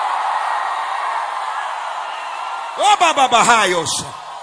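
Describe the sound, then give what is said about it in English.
An audience in the tent, outside and in the building, asked to scream, roars steadily, then several loud voices break out in overlapping yells and whooping screams for about a second before settling back into the general din. “I need 60 people in the tent, outside, in the building, to scream like you lost your mind.”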